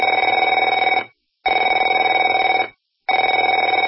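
telephone ringing

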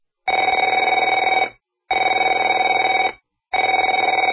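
telephone ringing

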